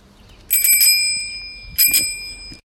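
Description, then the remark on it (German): An old-fashioned bicycle bell from 1950 rings twice, two bright metallic trills with a long shimmering ring-out, clear with no voices. “In diesem Fall, lieber Christian, ist es wirklich eine Fahrradklingel und zwar aus dem Jahre 1950.”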